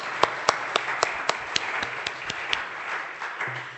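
A crowd applauds steadily to celebrate a new grandmother, a dense wash of clapping with several sharp, evenly spaced claps standing out in a quick regular rhythm throughout.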